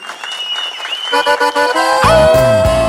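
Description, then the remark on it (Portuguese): An audience claps steadily and loudly, the applause blending with sustained, pitched musical tones that grow fuller partway through and keep going to the end. “Eu quero palmas. Tocantins inteiro.”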